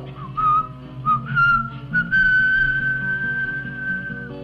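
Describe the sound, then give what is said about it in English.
A person whistles a short melodic phrase, a few brief notes then a long sustained high tone, clear, with a steady instrumental backing underneath and no talking. “You impudent little daughter, what makes you whistle now?”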